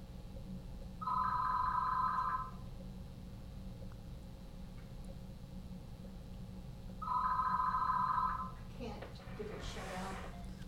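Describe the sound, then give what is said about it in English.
A telephone rings twice, each burst a trilling electronic ring lasting about a second and a half, spaced several seconds apart over a steady low hum, followed by faint rustling. “Let me just answer the phone here 1 second, see what's going on.”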